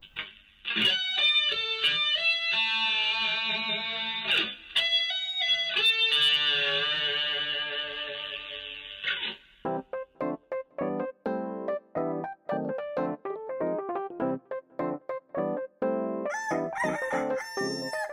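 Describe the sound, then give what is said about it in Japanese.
A short upbeat jingle: long, warbling crow-like tones give way to a lively run of quick staccato notes, bright and loud with no talking. “はい、ジングルいきます。”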